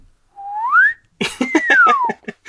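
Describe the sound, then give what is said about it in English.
Someone mimics a swanee slide whistle with their voice: a quick upward swoop, a brief pause, then a longer downward glide over a burst of other voiced sounds, fairly loud. “Could you also replace bigotry in all its forms with a comedy car horn? Yes, or a swanny whistle.”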